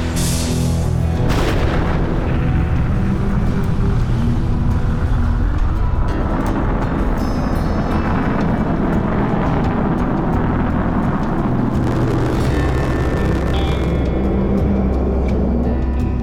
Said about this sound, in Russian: 5, 4, запуск главных двигателей, 2, 1.